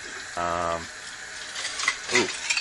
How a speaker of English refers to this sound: These dishes have been soaking in a pan of water since last night, and the water is extremely cold.